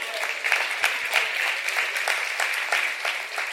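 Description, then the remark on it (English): Steady applause from an audience, many hands clapping together in a dense, continuous patter that holds at a fairly loud level for a few seconds, with no voices standing out. “And enough hand claps right there.”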